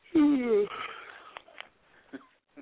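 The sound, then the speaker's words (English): A person lets out a drawn-out, voiced yawn that slides downward in pitch, followed by a few soft breathy exhales and faint clicks. “Bitch, I'm glad you yawning.”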